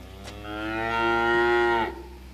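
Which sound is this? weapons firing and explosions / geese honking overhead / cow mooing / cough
cow mooing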